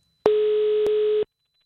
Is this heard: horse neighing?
no